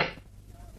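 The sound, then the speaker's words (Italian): A single sharp wooden snap of a film clapperboard closing on a film set as a scene starts shooting, loud, with a brief bright crack that quickly fades into a low hum. “Ciac.”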